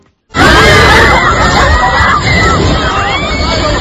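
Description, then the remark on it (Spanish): Bathers on three beaches in Gran Canaria scream and shout all at once after a shark is sighted off the coasts of Telde and San Bartolomé de Tirajana, a loud, dense wall of overlapping cries and babble that starts abruptly and holds steady for several seconds. “Esto que escuchan eran los gritos de muchísimos bañistas de tres playas, incluso de la isla de Gran Canaria.”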